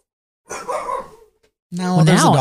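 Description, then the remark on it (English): A dog barks twice, a rough burst followed after a short pause by a longer, louder, more tonal bark with a wavering pitch, fairly prominent. “So I'm not supposed to talk about barking dogs in the background, Daniel, because apparently no one can hear them.”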